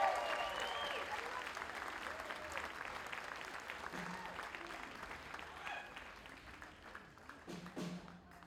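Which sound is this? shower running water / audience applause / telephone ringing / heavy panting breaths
audience applause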